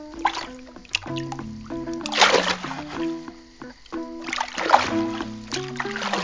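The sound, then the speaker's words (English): Water splashes in a few bursty sloshes as a child washes himself, over a steady bed of melodic music, loudest around the middle and again near the end. “Don't waste the water.”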